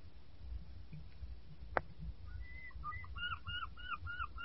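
birds calling

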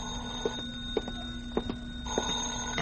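telephone bell ringing

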